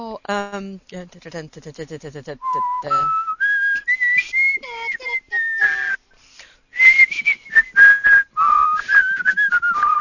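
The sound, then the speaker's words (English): A person whistles the Hogan's Heroes TV theme tune, a run of clear high notes that rises and falls in a marching rhythm, with voices talking over the opening seconds. “Hogan's Heroes, there's a good theme song.”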